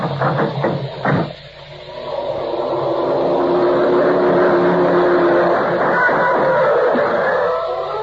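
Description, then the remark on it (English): A few sharp knocks open, then the engine of a black twelve-cylinder sedan swells into a loud, throbbing roar as the car speeds past and holds for several seconds before easing slightly. No voices. “The black sedan pounded by on all 12, and Quinlan folded up like a playpen in a high wind.”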